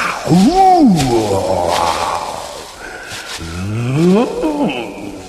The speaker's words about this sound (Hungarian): És az erdő sűrűjéből bősz ordítással kilépett a gorilla. Akkora volt, mint egy szénabogja.